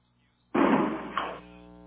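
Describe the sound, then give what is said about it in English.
A chair rattles and creaks loudly as the mayor comes in and drops into it, a sudden clatter followed by a second knock before it settles, with no talking over it. “If you hear the chair rattle, the mayor just came in.”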